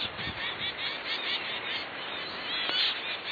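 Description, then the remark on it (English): A dense, overlapping chatter of male zebra finch calls, tiny Australian songbirds with smoky gray heads, stubby red beaks, orange cheeks and black and white tails; many small nasal chirps layered together at a steady, moderate loudness with no pauses and no voices. “Andrews in Scotland studied male zebra finches, tiny Australian songbirds with smoky gray heads, stubby red beaks, orange cheeks, and black and white tails.”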